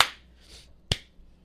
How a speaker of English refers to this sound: And three, two, one. Claps.